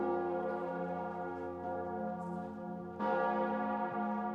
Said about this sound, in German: Unter dem Klang der Cantabona, der größten Glocke des Hildesheimer Doms, legen die rund 30 versammelten katholischen Bischöfe Heiner Wilmer die Hand aufs Haupt, nehmen ihn in die Gemeinschaft der Oberhirten auf.